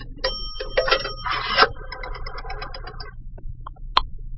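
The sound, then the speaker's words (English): Coins drop into a pay phone with a few bright, ringing chimes, followed by a quick run of soft mechanical clicks as the dial turns, then a couple of sharper clicks. No one speaks. “Then I decided to make a phone call from a coin phone.”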